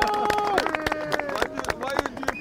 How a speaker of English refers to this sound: Everyone give the fundraiser a clap.